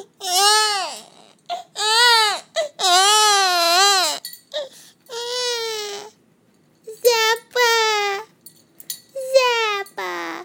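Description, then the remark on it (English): A person imitates a baby crying, letting out a series of loud, high wailing bursts that rise and fall in pitch, separated by short gasping pauses, with no other sounds. “He did something really funny the other day when I did my baby cry.”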